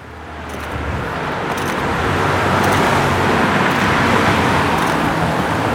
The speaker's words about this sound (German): Lass kurz das Auto hier vorbei.